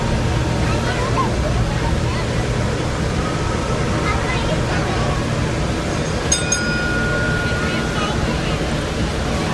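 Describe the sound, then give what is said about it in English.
A ship getting underway: its engine rumbles steadily beneath a continuous wash of water, with faint indistinct voices in the background and a brief sharp ping partway through. “We're about to get underway, so I'm gonna shut my vocal cords down and let you listen.”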